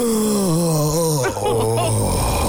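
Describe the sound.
A person lets out a long, wavering moan, performed as the moaning heard behind a door in a told story; its low pitch slides up and down before briefly breaking off and trailing into a deeper, steady groan. No words are spoken.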